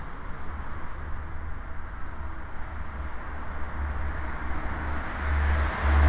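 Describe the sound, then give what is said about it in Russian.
A steady roar of road traffic with hissing tyres and a deep low rumble, at a highway interchange where cars pass under stone and iron bridges, growing louder near the end as a vehicle seems to pass by. No voices. “Здесь есть звук шипение колес, здесь есть погружение куда-то вот под каменный мост, под железный мост автомашин, автомобилей. Есть звук поездов, которые проезжают.”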